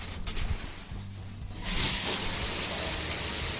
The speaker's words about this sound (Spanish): La ducha consigue espabilarle un poco